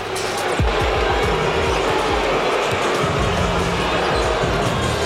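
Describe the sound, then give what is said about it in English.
A large crowd at the Bucks' home arena, Pfizer Forum, boos its own team during a basketball game against the Jazz, in a loud, sustained roar that never lets up, with the faint thump of a basketball bouncing underneath. “The Bucks home crowd letting them hear it, getting booed in their own building,”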